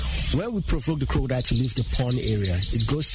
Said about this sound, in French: Le soleil se couche et les oiseaux chantent lorsque j'arrive au jardin botanique de Limbe.